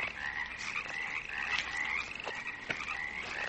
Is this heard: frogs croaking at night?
yes